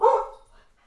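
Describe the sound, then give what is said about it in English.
A single sharp dog bark, loud, with a bright burst that fades quickly into quiet. “It's dogs. more wolves.”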